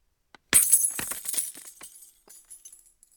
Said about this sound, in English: Then, dropping your keys down a huge well. This is the first one I did back in the day. Dropping your keys down a huge well with lots of glass at the bottom. Generation one.